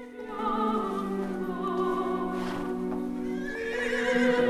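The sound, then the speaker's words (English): A horse neighs in one long, wavering whinny that rises and falls in pitch, loud, with no voices present, in Andy's factory warehouse where a cowboy movie is being made. “Odd people mill around, and there are even horses.”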